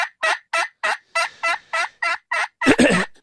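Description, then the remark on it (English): A run of about ten sharp, evenly spaced hen-like yelps from an aluminum-top slate turkey call with a slate soundboard, fairly loud, ending in a harsher, louder final note with no talking. “And you're simply using what a hen would sound like?”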